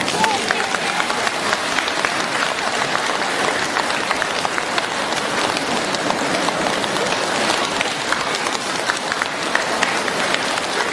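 Sustained applause from a large audience thanking Master Lu Junhong at the end of a question-and-answer session, a dense, even roar of many hands clapping at once that stays steady and loud from start to finish.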